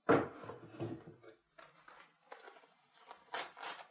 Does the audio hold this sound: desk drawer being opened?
yes